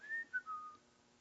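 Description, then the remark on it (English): A man whistles a short three-note descending phrase, clear, with the notes gliding downward before fading into quiet. “Now he's whistling.”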